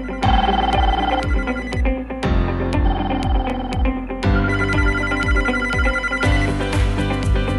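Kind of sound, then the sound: signal or alarm, telephone ringing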